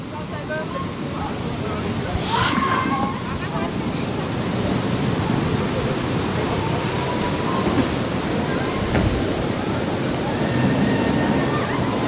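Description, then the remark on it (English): A steady, rushing wash of flowing water by the Bay of Poseidon at a theme park, fills the scene at an even level throughout, with faint indistinct voices and a brief higher-pitched sound near the start. “It makes sense because there's loads of shadows around, and we're by the Bay of Poseidon. So we've got the water.”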